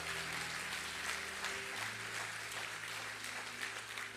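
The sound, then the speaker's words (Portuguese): A large audience claps steadily and continuously for several seconds, a dense wash of applause, with a low sustained keyboard chord humming underneath and shifting pitch partway through. “Dê uma salva de palmas.”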